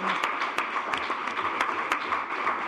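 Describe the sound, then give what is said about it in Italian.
Audience applause for an absent teacher, Professor Angelita Mingano, fills the whole stretch: a dense, steady patter of many hands clapping at once, fairly loud and even, with a few sharper claps standing out. No one speaks. “Vabbè, facciamo un applauso anche a lei, che non è presente.”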